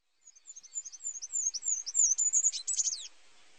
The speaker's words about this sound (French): Une mésange a rompu le silence du jardin.